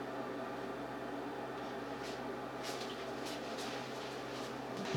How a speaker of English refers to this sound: So the water is boiling now, so we're gonna put in some spaghetti and stuff.